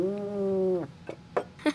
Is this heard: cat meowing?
yes